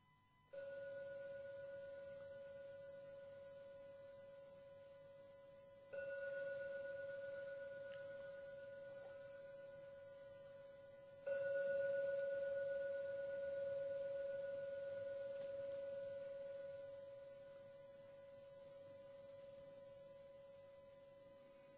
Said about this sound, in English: So I'll ring the bell 3 times. You can open your eyes when you're ready.